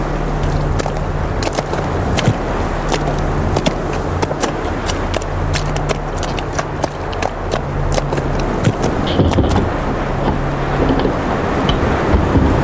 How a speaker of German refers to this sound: Der Sturm wird immer stärker.